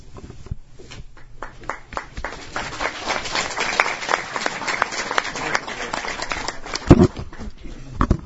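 A crowd applauds with dense, overlapping claps that build quickly after a sparse start, holding steady and fairly loud for several seconds before tapering, with a faint voice briefly underneath.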